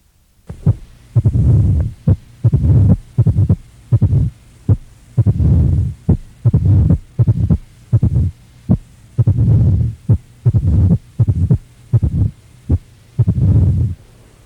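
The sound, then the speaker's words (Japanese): Heart sounds in atrial fibrillation, with an irregular rhythm, each beat followed by a low, rumbling mid-diastolic murmur whose length varies from beat to beat. Clear, with no talking. “心房細動のある場合は全収縮期雑音は生じません。また拡張中期雑音の長さや強さも先行拡張期の長短によって変化します。”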